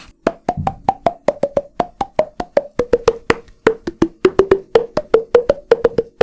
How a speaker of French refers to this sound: Soit il m'arrive comme ça d'utiliser mon corps. Je vais utiliser les... Je tape les deux mains comme ça à l'entrée de la bouche pour faire changer des sons.